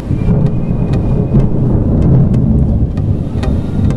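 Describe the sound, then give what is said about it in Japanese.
Low, continuous rumbling of distant thunder rolls on for several seconds, steady and fairly loud, with sharp little taps scattered over it like heavy rain falling, during a downpour over a shopping street. “遠くで雷鳴。”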